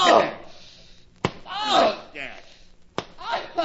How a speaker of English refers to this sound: why don't you quit beating a kid? He's making enough racket to wake up the dead.